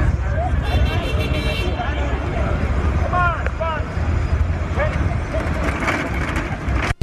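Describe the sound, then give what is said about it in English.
Steady rumble of New York City street traffic, in which Harrison Ford's car was stuck, with passing cars, indistinct crowd chatter and a few brief high squeals rising over the continuous, fairly loud background din. “his car got caught up in some traffic and they were stuck in this”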